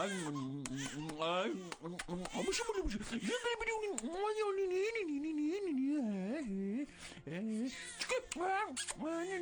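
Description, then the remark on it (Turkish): A small child cries and wails, sobbing continuously in rising and falling bursts for several seconds without pause. “Şimdi ağlama bala.”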